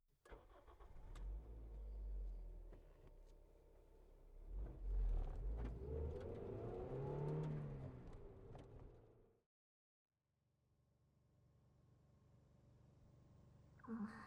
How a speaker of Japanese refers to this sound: ああ、車。